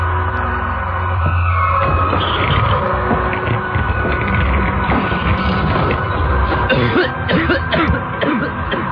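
Repeated, harsh coughing comes in loud bursts over a constant dense background rumble, with throat-clearing sounds in between and no clear speech, at night.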